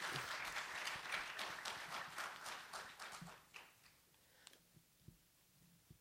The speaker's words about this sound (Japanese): 今一度もう一度盛大な拍手よろしくお願いいたします。